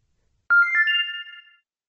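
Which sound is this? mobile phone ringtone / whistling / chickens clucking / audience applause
mobile phone ringtone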